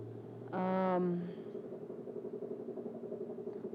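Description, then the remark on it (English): A helicopter drones steadily overhead at a compound, with a low, pulsing rotor rumble that continues throughout, briefly overlaid near the start by a loud, sustained harmonic tone. “That is simply a chopper flying overhead.”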